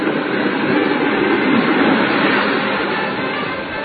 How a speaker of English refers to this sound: Those were the real Toronto trolleys, which were great.